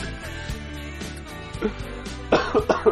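A quick series of three or four fairly loud coughs near the end, breaking over a steady humming tonal background that runs underneath the whole time.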